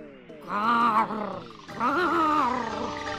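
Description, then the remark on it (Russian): A voice makes two drawn-out, raspy croaking calls, the first wavering like a frog's croak and the second harsher like a crow's caw, fairly loud with a brief pause between. “О, то квакаю, то каркаю.”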